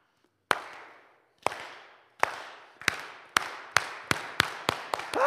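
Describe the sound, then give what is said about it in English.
A slow clap builds from widely spaced single claps into a quickening rhythm, each sharp crack ringing out and fading, about ten claps accelerating toward the end with no talking. “Maybe we do a slow clap.”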